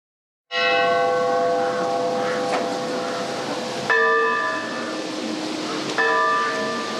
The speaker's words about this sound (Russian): Колокол звонит 173 раза по числу лет, прошедших с той роковой дуэли у горы Машук. Панихида проходит в церкви Михаила Архистратига.